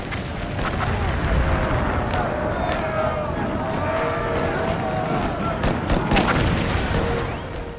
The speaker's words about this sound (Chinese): 1863年7月3日下午，美国历史上著名的葛底斯堡战役打响了，南方邦联的130多门火炮集中火力，对北军中段防线狂轰滥炸，北军瞬间伤亡数百。